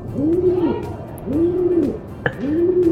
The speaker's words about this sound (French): Non, parce que j'entendais des bruits de pigeons encore derrière, je me suis dit, s'il me laisse des bruits de pigeons